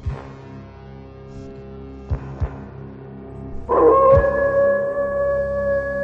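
A wolf's long, steady howl swells in partway through and holds loud, over a low droning background with a couple of soft knocks just before it.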